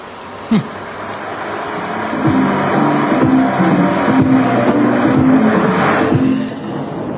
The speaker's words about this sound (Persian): یا این ماشینی که گذشت، عشنگیشو، سانتیمانتال بودنشو میبینی.